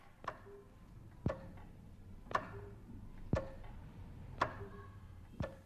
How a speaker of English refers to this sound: The clock mechanically interrupts a continuous note, breaking it up into 6 pieces that usually represent the last seconds before the hour or the half hour.